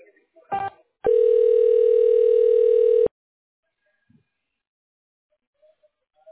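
A short click, then a single steady, clear telephone ringing tone lasting about two seconds as a call is transferred to an office manager's phone, followed by near silence with a few faint soft noises.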